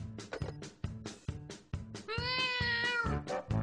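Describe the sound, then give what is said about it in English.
A cat gives one long, drawn-out meow with a wavering pitch, preceded by a steady thumping rhythm of short, punchy beats; the sound is fairly loud. “This is a song for your pregnant kitty.”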